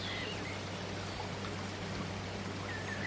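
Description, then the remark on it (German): A steady babbling stream fills the scene with continuous soft gurgling and trickling water, even in level, with no voices. “Gemeinsam mit dem Zwerg, dem kleinen Bären und dem kleinen Fuchs läufst du fröhlich weiter am Bach entlang.”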